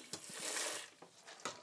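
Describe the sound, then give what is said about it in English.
A brief, soft pour of water into a dog's bowl, a hissing splash that swells and fades, punctuated by a few light clicks and knocks, with no one speaking. “That, a bit of water.”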